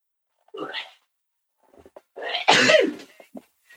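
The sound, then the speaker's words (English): A single loud sneeze bursts out after a short breathy gasp, preceded a moment earlier by a brief vocal sound and followed by a few faint clicks and shuffles. “Bless you.”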